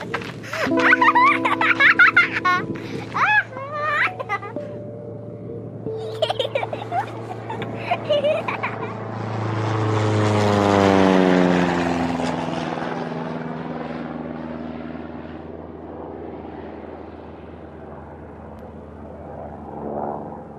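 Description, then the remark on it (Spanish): A propeller crop-duster spraying pesticides in the Argentine countryside, from the short film Tierra Perdida, swells in and roars low overhead, its engine pitch dropping sharply as it passes and fades away. Voices are heard briefly at the start before the plane arrives. “Tierra Perdida, película del argentino Juan Cruz Caricati, en la que en solo un minuto denuncia los riesgos de la fumigación de pesticidas con aviones en las cercanías de viviendas y escuelas en el campo argentino.”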